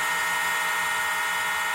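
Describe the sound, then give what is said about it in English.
The bark of a dog named Gabe, heavily processed by repeating a procedure over and over for almost 5 minutes, smeared into a continuous, steady high-pitched whirring drone with no separate barks, resembling a drill or hairdryer, holding at an even level throughout. “This is a dog barking.”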